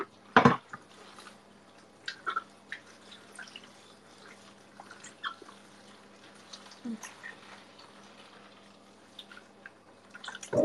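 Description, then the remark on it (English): Scattered drips of water fall irregularly in a sink while dishes are being washed, over a low steady hum, with a sharp clatter of dishes near the start and again at the very end. “I'm almost done with my dishes, yeah.”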